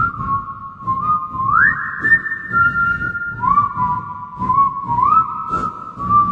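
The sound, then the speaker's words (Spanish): A slow, eerie whistled melody with long sliding pitches, rising and falling in a haunting line, carried over a low rumbling background with no talking; the terrifying whistle of El Silbón, the legendary whistling spirit. “Es el silbido aterrador del silbido del Silbón.”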